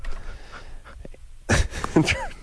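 A loud four-stage yawn into a microphone, opening with quiet breathy inhales and then swelling into several strained, breathy stages with sliding vocal pitch.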